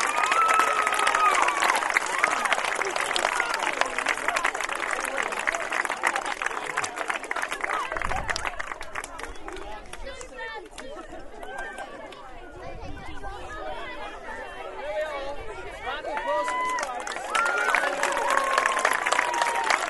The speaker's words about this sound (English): And the winners this year. Yeah! Stripes, 1,379. Round of applause for the stripes.